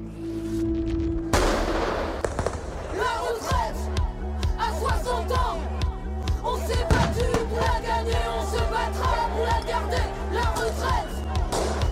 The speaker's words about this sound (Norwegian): Grunnen til at jeg denne gangen løper rundt i tåregass-tåka protester mot en pensjonsreform. En lov om å flytte pensjonsalderen fra 62 år til 64. Og demonstrantene roper til og med om pensjon fra 60 år.